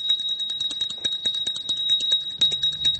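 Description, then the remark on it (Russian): A small ceramic hand bell, used to call the waiter at the Ukrainian restaurant Gostiny Dvor in Podil, rings continuously, its clapper striking in a rapid rattling rhythm over a steady high-pitched tone, fairly loud with no voices. “Для вызова официанта в украинском ресторане «Гостиный двор», что на Подоле, на каждом столике стоит керамический колокольчик.”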